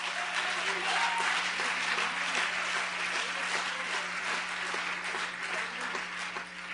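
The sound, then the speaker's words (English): A crowd in church claps steadily and continuously, a dense, even wash of many hands striking together at a fairly loud level, with a low steady hum beneath and no break across the whole stretch. “Well, people clapping your hands in church.”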